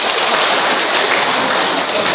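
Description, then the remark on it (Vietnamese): A steady, dense wash of crowd applause inviting an audience member up to sing, many hands clapping at once into a continuous crackling roar that stays loud and even throughout, with no voices heard. “Chúng ta cho một tràng pháo tay mời bạn lên đây, thưa anh chị em.”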